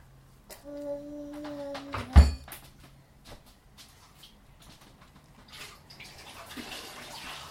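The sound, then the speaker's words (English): Water runs from a tap into a cup for a young girl, with a sharp clunk of the cup or tap early on and a rising, hissing pour toward the end. No one speaks. “And let's get you some water.”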